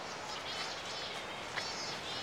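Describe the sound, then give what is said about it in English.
An odd, warbling bird call rises and wavers in a high pitch over a steady hiss, fairly faint and continuous for a couple of seconds, with no voices present. “That's a bird.”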